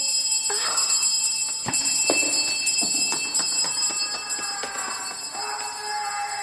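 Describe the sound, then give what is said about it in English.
A bell rings on and on without pause, its bright, high metallic tone sustained and overlaid with rapid clattering strikes. It stays fairly loud throughout, with no voices. “Why does it keep ringing?”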